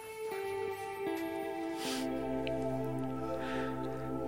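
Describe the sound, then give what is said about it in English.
Relaxing music made for plants, from an online playlist: calm ambient music with long sustained tones and a low drone, notes shifting slowly in steps, with soft airy swells drifting over it; steady and gentle, no voices. “vous allez tomber sur des playlists de musique et de sons pour plantes.”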